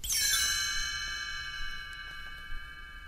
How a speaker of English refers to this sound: You will notice time to turn the page when you hear the chimes ring like this.